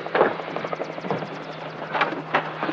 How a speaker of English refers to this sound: Uh-oh. Choppers. Ooh, they sound loaded.